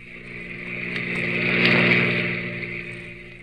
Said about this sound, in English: car whipped by.